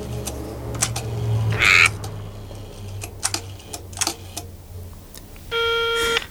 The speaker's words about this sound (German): Nach langem Grübeln und Überlegen griff der erste Detektiv schließlich nach dem Telefonhörer und wählte die Nummer des Polizeireviers.